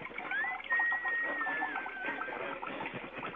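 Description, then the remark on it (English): A toilet flushing: a steady rush of swirling water with a thin, wavering whistle running through it, holding fairly loud for a few seconds with no one talking. “Cut the mic, because I hear toilet flushing.”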